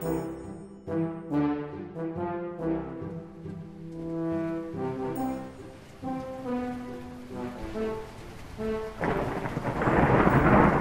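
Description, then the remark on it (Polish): A thunderstorm with deep rolling thunder and rain, tonal rumbles rising and falling before a loud hiss of downpour swells near the end; no one speaks. “Jaka burza, Boże, jaka burza!”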